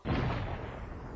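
A close incendiary mine explosion, a military munition set off in the desert at nightfall: a sudden, heavy boom that bursts in at once, then a deep, roaring rumble that hangs on for about a second without fading much.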